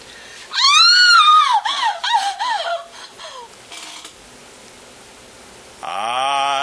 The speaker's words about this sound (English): child screamed.